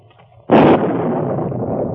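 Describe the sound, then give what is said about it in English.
A bridge blows up: a sudden loud explosive blast erupts after a quiet moment, followed by a sustained rumbling roar of debris that stays loud and gradually thins out, with no voices. “He must have gotten across the bridge before it busted.”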